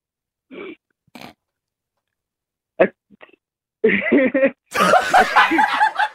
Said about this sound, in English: Yours, I'm going to be honest, but yours is like a cute sneeze. Yeah. It is, because you giggle after you sneeze, which is nice.